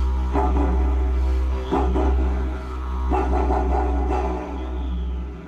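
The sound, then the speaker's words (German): A didgeridoo drones on a deep, steady low tone while sharp rhythmic bursts break through, mimicking the barking of a dingo, a desert dog, in a series of about five yelping accents. “Plötzlich kann sich das Didgeridoo anhören wie ein bellender Dingo, ein Wüstenhund.”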